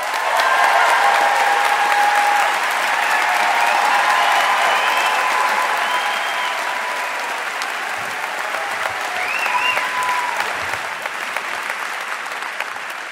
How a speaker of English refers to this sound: Look at that applause you got. Look at that.